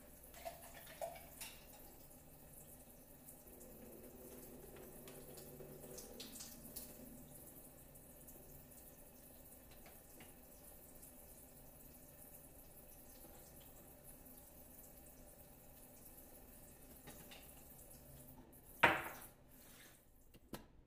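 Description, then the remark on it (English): Spring or filtered water runs and splashes steadily into a bowl for about twenty seconds to rinse freshly made butter, a soft continuous pouring, ending with a brief louder clatter near the end. No one speaks. “And use some spring water or filtered water to rinse it.”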